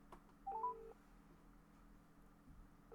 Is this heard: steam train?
no